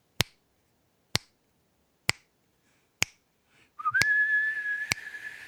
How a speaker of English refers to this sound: That was feeble. You appropriately changed your tempo of your snaps. Thank you very much. I couldn't still whistle worth a damn.